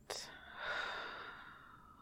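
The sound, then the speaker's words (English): A single slow, breathy exhale during a guided relaxation breathing exercise, fairly soft, swelling briefly then fading gradually over about two seconds, with no talking. “In, out, one last breath, in, out.”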